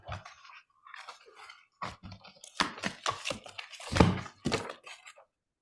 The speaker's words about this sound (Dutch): Dus ik zal eerst mijn kaarten schudden. Er zitten niet zo heel veel kaarten in dit dek, maar wel een mooie.